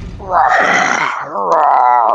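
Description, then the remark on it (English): A loud, eerie monstrous howl, heard by men aboard a submarine, rises into a harsh, wavering scream, then drops and warbles in long quivering tones, sustained and unbroken for about two seconds. “This howl is unlike anything you or any of the men on the sub have ever heard.”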